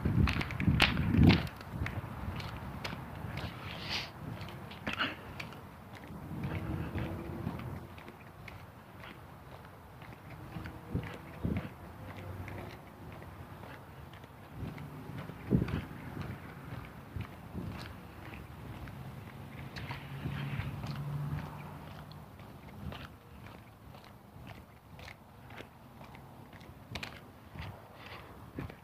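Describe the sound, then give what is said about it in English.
Steady footsteps of someone taking a morning walk outdoors on a hot, sunny day, moderately loud, with a regular stride, occasional scuffs and faint creaks over a soft background hum. “I'm not the only one trying to get the walk in here before it gets too warm.”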